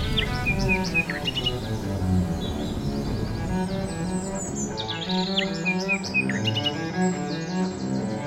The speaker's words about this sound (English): As they walked, they could hear beautiful sounds and birds singing cheerfully.